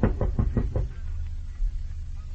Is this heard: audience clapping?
no